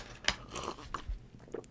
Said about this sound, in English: You're just the loudest swallower.